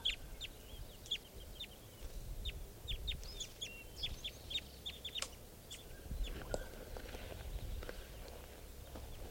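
A flock of birds keeps up a dense stream of short, high chirping calls, overlapping in quick irregular bursts, over a low outdoor rumble with no voices. The birds are foraging and calling from a fairly large lodgepole pine at a camp.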